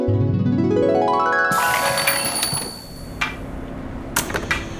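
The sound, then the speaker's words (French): A rising musical glide leads into a bright shop-door bell jingling and ringing on as Monsieur Mortimer Tyler opens the shop doors, followed by a few clicks and knocks of the door opening, with no voices. “Ah, donc, quand Monsieur Mortimer Tyler est venu ouvrir les portes...”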